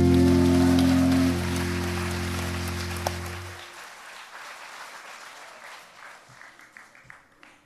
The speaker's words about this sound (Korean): 박수치기가 잘 안 맞지요?